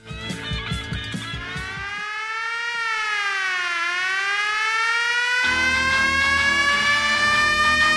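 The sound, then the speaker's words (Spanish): Air raid sirens of the kind sounded in London during Nazi bombing raids, used in a song: a loud wail with a rising and falling pitch, sustained and harmonically rich, over a low rhythmic pulsing backing at the start and end. “Las sirenas que estáis escuchando son las que sonaban en Londres con las alarmas aéreas cuando los bombardeos nazis.”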